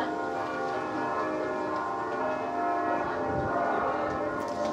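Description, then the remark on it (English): The church bells of St. Mary's ring at six o'clock, steadily and fairly loudly, their overlapping tones blending into a continuous wash of resonant chiming that carries through the whole stretch with no one speaking. “Let's everyone take a moment to reflect as the St. Mary's bells ring.”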